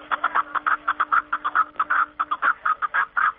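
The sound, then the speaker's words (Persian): A snowcock calls in a rapid, steady series of short clucking notes, fairly loud, continuing without pause and with no voices present, in spring in the mountains of the Panjakent area, Tajikistan. “گزارش خود را با ققره کپکی دری شروع کرده است”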